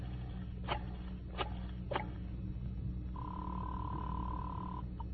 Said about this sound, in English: So, again, just for the fun of it, and without looking at the phone, I dialed 7 times.